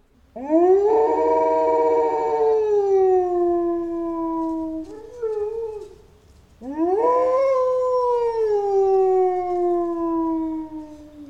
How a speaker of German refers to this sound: Sehr markant bei Wölfen ist ja auch ihr Heulen. Das würde ich einfach mal abspielen.